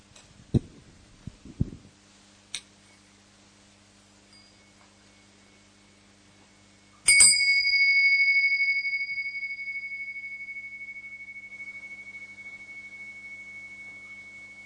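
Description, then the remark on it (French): A single gong stroke rings out after a few soft knocks, its clear metallic tone sustaining and slowly fading over several seconds. “Voilà, avant de commencer ou d'aller plus loin, je vais faire résonner ce gong qui nous rappelle la présence de l'instant éternel.”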